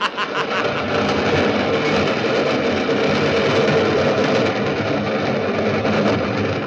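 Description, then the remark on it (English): The 410 train passes through, roaring steadily for several seconds, a loud, dense rumble and rattle that holds at an even level from start to finish, with no voices heard. “Yes, I was waiting for the 410 train to pass through. Here she comes.”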